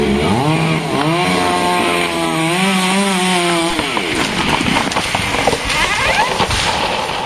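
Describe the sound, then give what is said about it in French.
In an African speciality food shop, a chainsaw cuts into a baobab tree for its leaves: the loud engine whines and revs up and down for a few seconds, then turns into a rough, crackling roar as the blade bites into the wood. “Vous avez un baobab? Pas de problème des baobabs, tout ce que tu veux, hein. Regarde, je vais la couper.”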